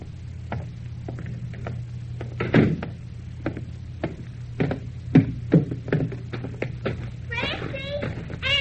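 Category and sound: household object, door closing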